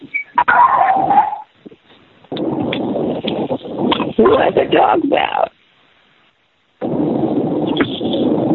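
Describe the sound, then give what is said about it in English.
A dog barks and whimpers in short bursts during a board meeting, heard over a muffled, phone-like line, with a brief pause and background voices between the yelps and whines. “Who's dog?”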